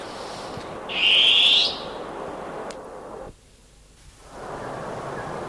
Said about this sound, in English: Oh, beautiful long-tailed cuckoo.